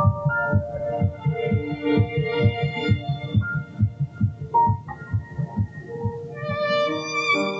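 A fast, steady embryonic heartbeat, detected at 3 weeks and 1 day (22 days after fertilization), thumps in quick low pulses for several seconds, with a sustained humming tone layered over it and rising toward the end. No one speaks.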